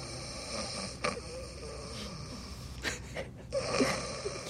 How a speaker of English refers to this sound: Behind them on the bed, Rex's snore rises up from the other side of the wall of pillows.